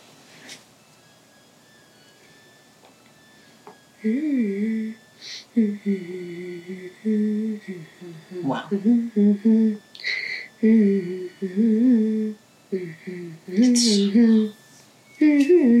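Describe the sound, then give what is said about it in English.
A clothes dryer runs with a steady high whine, soon joined by loud, irregular bursts of squeaky, warbling tones that rise and fall in pitch, almost voice-like, with clunks between them. “The dryer has a whole symphony, listen.”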